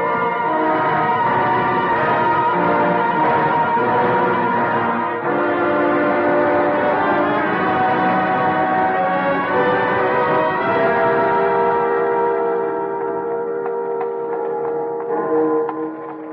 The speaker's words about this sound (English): What do the bells ring for today, Patrick? It is Holy Week, sir. A special week for the bells, it is.